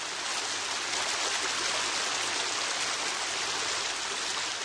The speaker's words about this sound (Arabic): أرعدت السماء في انسجام غريب مع إحساس سعاد وتلبدت بالغيوم وراحت تطرق برذاذها نافذة غرفة سعاد قائلة: ها أنا أناغم قطرات الدمع المحبوسة في عينيك، فهل ابتسمت؟